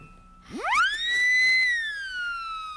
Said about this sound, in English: Oh, I'm sorry, King Friday. There is no fire. I was just showing this siren whistle to our new volunteer.